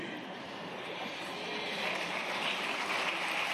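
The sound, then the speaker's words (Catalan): A crowd applauds steadily during a roll call after a surname was not read out correctly, a dense crackling wash of many hands clapping that swells slightly louder toward the end, with no clear voices above it. “Bé, aplaudiments i distensió, no acabaven de dir bé l'apellido i està tot el món molt pendent i mirant quan algú no s'alça o tarda un poc en eixir.”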